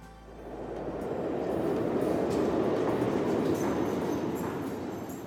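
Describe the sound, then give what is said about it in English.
A New York subway train rumbles steadily, a dense, continuous roar that swells quickly after the start and holds loud, with faint metallic rattling above it. “And so he spends a lot of his time riding the subway and waiting for the subway.”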